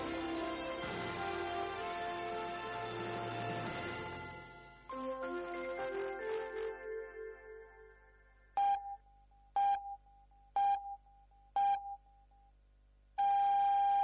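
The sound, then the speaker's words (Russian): A musical jingle fades out, then the Voice of Russia radio midnight time signal, marking midnight in Moscow, sounds: four short, evenly spaced high-pitched pips one second apart, followed by a longer sustained beep. No one speaks. “В Москве полночь.”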